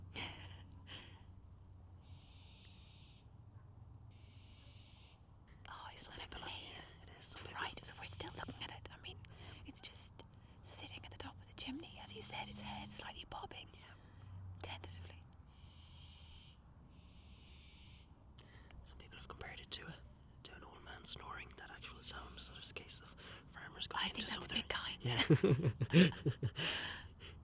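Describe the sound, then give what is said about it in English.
An owlet perched on top of a chimney gives a begging call: a series of harsh, raspy hisses like a zipper being pulled open, repeating in short bursts, with people speaking softly at times. “It's like the sound of a zipper opening, isn't it?”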